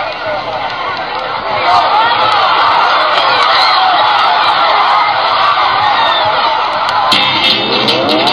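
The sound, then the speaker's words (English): Students cheer loudly along the sidelines as Lindenwood's first soccer team takes the field against the NCAA championship team from St. Louis University, a dense, steady wash of overlapping shouts and whoops that carries on for the whole stretch. “Loyal students cheer on the sidelines as Lindenwood's first soccer team takes the field to play the NCAA championship team from St.”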